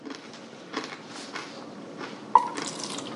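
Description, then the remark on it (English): Water splashes and trickles into a cup in a few uneven bursts as a drink of water is poured, with a sharp clink partway through followed by a steadier pour. No one speaks. “All this water talk is making me... Juice or something else? I think water is fine.”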